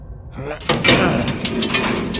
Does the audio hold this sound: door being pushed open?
yes